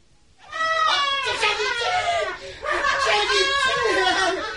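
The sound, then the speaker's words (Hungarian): A woman screams in two long, high-pitched, wavering bursts, loud and strained, with a brief gap between them and no other voices. “Szentséges uram, mi ez a sikítás?”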